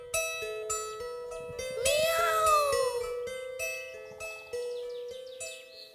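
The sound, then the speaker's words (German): A tomcat sitting on a path lets out one long, drawn-out meow that rises and sags mournfully, clear, over a soft bed of sustained background music. “Es dauerte nicht lange, da saß ein Kater auf dem Weg, der sehr traurig aussah.”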